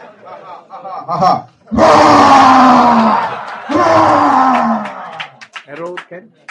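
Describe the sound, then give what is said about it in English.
A voice makes two loud, drawn-out roaring bellows in quick succession, each sliding downward in pitch, with brief speech before and after. “And at once a very roaring sound came from the pillar.”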